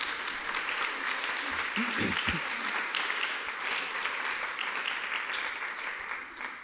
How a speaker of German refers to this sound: Dann herzlichen Applaus.